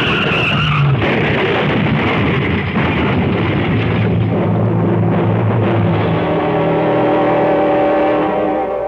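A car's tires skid and squeal loudly across a hail-covered road during a summer hailstorm, the screech sustained for several seconds with engine noise beneath, without any talking.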